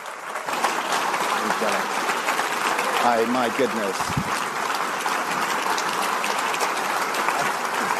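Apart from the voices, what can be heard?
audience applause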